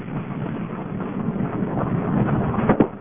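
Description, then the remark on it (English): Water splashes and churns in a steady, noisy wash for about three seconds, with a sharper, louder splash near the end. No one speaks. Recorded on May 30th beside a road with snow piled several feet high. “You can hear it splashing if you listen carefully.”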